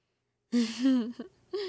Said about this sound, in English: That gasp drew more than a few glances, hon. Best try to keep yourself under control.